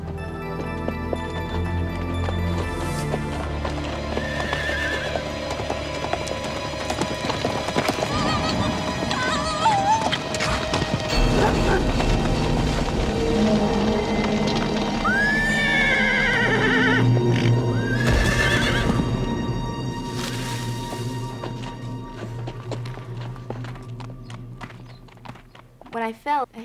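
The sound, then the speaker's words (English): Hooves of a saddled ex-race horse clip-clop steadily as it heads out for a ride on Christmas Eve in Phoenix, Arizona, under a blue sky at 75 degrees, while the horse whinnies and neighs several times, its cries rising and falling over the hoofbeats and a low rumbling background. “saddled up her ex-race horse, Sly, and headed out for a ride”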